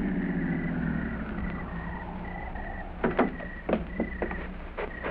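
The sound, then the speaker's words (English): A car engine rumbles and winds down as the vehicle pulls in behind a medic's car and slows to a halt, followed by a few sharp mechanical clicks and knocks once it stops. “Oh, there's the medic's car. Ah, good. Pull in behind it”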